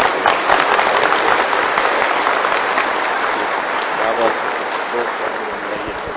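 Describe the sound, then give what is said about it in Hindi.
A crowd applauds steadily at an inauguration, with dense, continuous clapping that holds at an even, fairly loud level throughout and only eases slightly toward the end. “लेकिन खास हम तो कहेंगे जिन्होंने प्रैक्टिकल कार्य किया है का उद्घाटन कर रहे हैं, खूब ताली बजाइए।”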